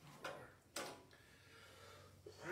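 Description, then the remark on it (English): Two short, harsh coughs in quick succession, the second louder and sharper, followed by a low hum of background noise with no talking. “I rebuke this cough.”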